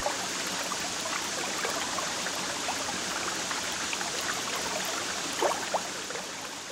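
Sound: river water flowing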